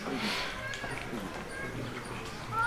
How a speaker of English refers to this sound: You see these cows passing, very beautiful and auspicious vision to behold.